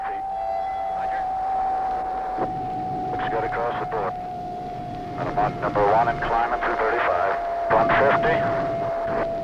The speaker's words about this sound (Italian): Su un aereo X-2 in volo sperimentale, il pilota collaudatore Skip Ziegler muore cercando di battere un nuovo record.